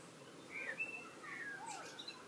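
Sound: blackbird singing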